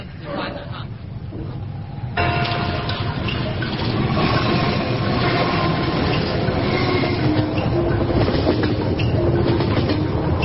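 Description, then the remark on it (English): A train rumbles steadily along the rails on a 22-hour trip south toward the Qingling Mountains, its loud, continuous roar rising sharply after a quieter start, with metallic squeals and rhythmic clatter layered over the low rumble. “22 hours by train, then 14 hours by bus.”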